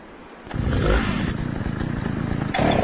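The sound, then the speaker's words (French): A video game chainsaw sputters to life as it is started to fight monsters, then roars with a steady, rough revving drone, loud, surging briefly near the end. “Mais écoutez bien, on peut mettre la tronçonneuse en marche pour friter les monstres.”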